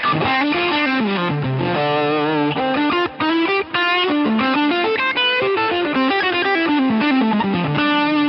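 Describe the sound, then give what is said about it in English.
A distorted electric guitar plays a continuous melodic riff through an amp, recorded with a 67 condenser microphone, warm and balanced in tone with the top end rolled off by a high cut, loud with no voices, pausing only briefly midway. “I find the 67 condenser quite balanced, and a high cut here at 5.1 without that.”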